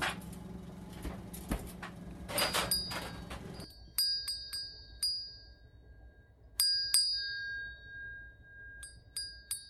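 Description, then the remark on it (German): A ship's bell is struck repeatedly to signal lunchtime aboard, in quick clusters of bright, ringing strikes that linger briefly, following a few seconds of loud clattering, rushing noise at the start. “Das ist das Zeichen, dass es Mittagessen gibt.”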